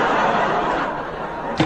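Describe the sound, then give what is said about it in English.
A door slams shut once near the end as the character Percy walks out, a single sharp bang rising briefly over steady audience laughter and chatter that fills the whole stretch. “The moment that door slammed, Percy sealed his own fate.”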